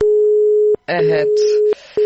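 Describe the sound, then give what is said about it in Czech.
A telephone busy signal on a radio station's phone line: a steady, mid-low pitched tone broken by brief silent gaps in a repeating on-off pattern, with a voice talking over part of it. “očito jutros imamo žestokih problema sa telefonima.”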